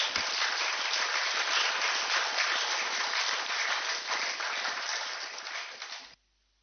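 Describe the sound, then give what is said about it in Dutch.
A crowd applauds a person coming forward to receive a 12.5-year service tribute, a dense wash of many hands clapping at an even loudness for about six seconds before cutting off abruptly. “En applaus.”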